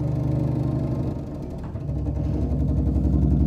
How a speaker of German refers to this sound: Und obwohl 2016 das Orchestre Symphonique de Montréal unter seinem Chef Kent Nakano den Oktobass offiziell eingeführt hat, ist diese Riesin unter den Bassgeigen eine ausgesprochene Seltenheit geblieben.